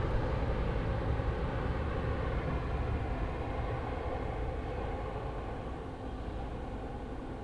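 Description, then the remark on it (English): A long freight train with no engine on the back rolls steadily past, a continuous deep rumble and clatter of wagons that holds at an even loudness throughout, with no voices. “All right, the train has just passed by, has no engine on the back, and now we're going to listen.”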